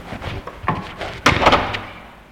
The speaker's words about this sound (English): And for the first time in 12 years, he had a door he could lock.